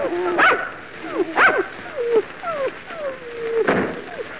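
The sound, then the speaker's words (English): Several dogs bark and bay in an irregular series of loud, yelping bursts, their voices sliding up and down in pitch, with no talking. “We got to get away from these dogs.”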